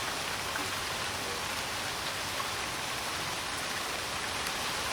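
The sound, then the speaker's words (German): Steady rain falls outside, a dense, even hiss of drops with no pauses, moderately quiet and continuous with no voices. “Und damit man das vielleicht an den Geräten, an den mobilen Endgeräten nachvollziehen kann, ganz kurz mal drei Sekunden Schnauke halten, dann kann man den Regen vielleicht hören.”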